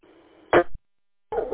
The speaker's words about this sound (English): my dog is saying hi to my wife, who just came home from a concert.